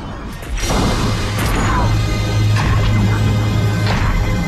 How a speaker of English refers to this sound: The clown smashes into the club through the door.